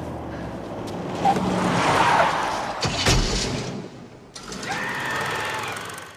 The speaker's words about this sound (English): When the friends, the cavalry comes, Steve's friends, nice to have a plow truck. Because they basically took out the car. Yeah, but... plowed it into a snowbank and lifted it with the plow, trapping them.